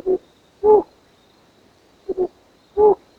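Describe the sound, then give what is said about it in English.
Soft, low hoots of a flammulated owl sound in a slow, uneven series of about five notes, two closely paired, each muffled and resonant against a quiet night background. “When you hear the soft, resonant hoot of a flammulated owl, you know you're in a really wild place.”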